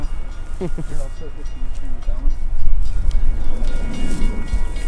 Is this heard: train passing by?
yes